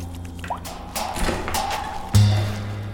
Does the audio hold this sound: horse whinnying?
no